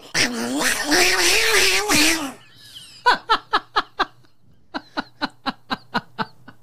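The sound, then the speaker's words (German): A person's voice imitates fighting cats: a long, wavering, strained yowl lasting about two seconds, then two quick runs of sharp, rhythmic breathy bursts, fairly loud, with no other talking. “Ich kann sehr gut kämpfende Katzen machen, warte.”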